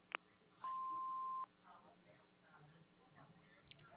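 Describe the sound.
An answering machine beep: one steady, mid-pitched electronic tone lasting under a second, preceded by a faint click, after which a voice begins talking over a thin, telephone-quality line.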